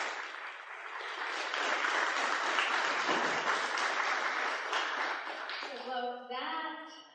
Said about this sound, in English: So, anyway, with that, huge round of applause. Thank you so much for coming to Petersburg, and we hope we get to see you again for the big election.